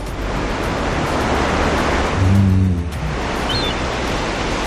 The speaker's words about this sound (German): Einfach zauberhaft, so ein Meeresrauschen.